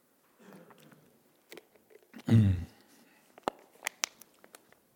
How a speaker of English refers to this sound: Maybe I should have a little sip of this Kickapoo joy juice before I start.